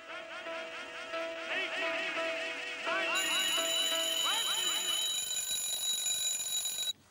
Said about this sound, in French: Et en plus, il avait mis un réveil à la fin pour que tout le monde sache quand reprendre.